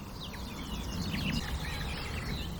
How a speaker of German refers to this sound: Und all diese Ablenkungen meiner Wahrnehmung lässt einfach diese Grasmücke vor mir singen und singen und singen. Boah, da waren Imitationen eben drin.